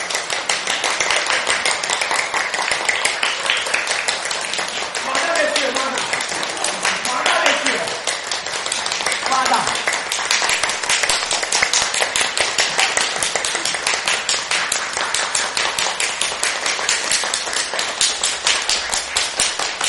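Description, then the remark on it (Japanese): Children of Hamakawa church clap their hands steadily and quickly for over a minute, a dense, continuous patter of overlapping claps, with faint voices briefly audible underneath. “で、ニコニコ、プチ、大きい上げて、拍手、いながら、3、はい。”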